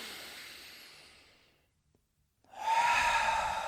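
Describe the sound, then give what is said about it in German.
An audible breath during a guided deep breathing exercise: a long airy exhale tapers off into a brief pause, then a loud, rushing deep breath follows, with no talking. “Gerne auch laut, uns hört und sieht ja keiner. Das machen wir jetzt noch zweimal.”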